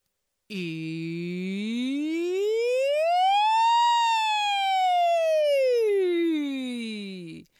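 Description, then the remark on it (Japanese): A single human voice does a vocal siren practice exercise, gliding smoothly upward from a low pitch to a high one and back down again in one sustained siren-like sweep, clear, lasting several seconds with no other sounds. “この下から上までピョーンって上がって下がるサイレンの練習”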